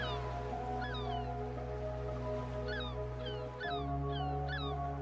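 White seagulls cry out in a few short bursts over a sandy beach, some calls overlapping, above a steady low rumbling background like surf from sea waves breaking near the shore. No one speaks.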